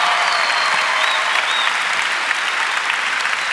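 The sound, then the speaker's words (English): An audience claps steadily, a dense wash of many hands applauding at an even, loud level throughout, with no voices standing out above it. “Come on, can we clap to that?”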